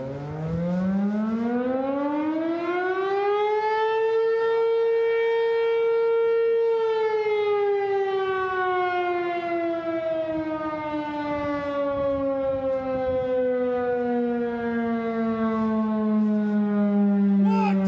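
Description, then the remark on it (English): A loud siren in Minden wails on its own, its pitch climbing steadily, holding at a high tone, then slowly sliding back down in one long, continuous cycle. “After the siren run, we walked through Minden again.”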